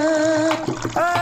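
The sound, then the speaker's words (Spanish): A river flows and rushes steadily, with no pauses. A sustained, tonal note runs through the splashing, and no one speaks. “Hoy el río suena, hoy el río canta.”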